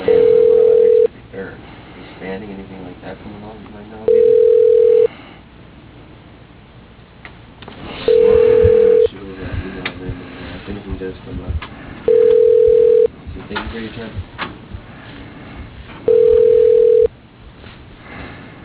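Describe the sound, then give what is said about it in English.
A telephone ringback tone repeats five times, each steady buzz lasting about a second with roughly three-second gaps, over a narrow phone-line sound with faint, muffled voices murmuring underneath, while a phone call is being transferred. “Please hold while I transfer your call.”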